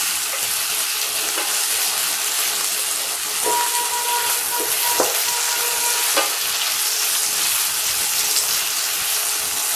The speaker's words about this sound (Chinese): 需要炸一会儿，需要把它炸把这个香干炸成，应该说煎成有一点硬硬的才可以。